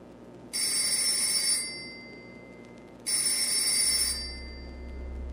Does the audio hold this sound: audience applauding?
no